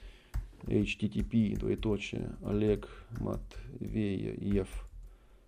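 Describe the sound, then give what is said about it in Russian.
Quick, irregular keyboard clicks tap away beneath a man talking continuously as he types out the address of his blog, the keystrokes fairly faint under his voice. “вот я прям тебе тут напишу, да?”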